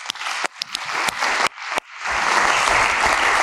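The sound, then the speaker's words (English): A crowd breaks into applause, starting with a few scattered claps that quickly swell into steady, full clapping from an audience, with no talking. “Round of applause.”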